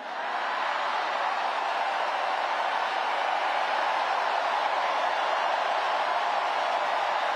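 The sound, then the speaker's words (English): A large crowd at Governor Tim Walz's speech in Philadelphia cheers and roars in one steady, unbroken wash of noise for several seconds, holding loud without pauses and with no single voice standing out. “The crowd likes that remark.”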